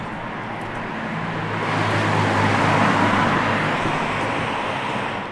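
Steady, dense traffic on the N12 highway roars without a break, a broad rumbling wash of cars and heavy trucks, thousands of trucks a day, that swells slightly as vehicles pass, with no voices.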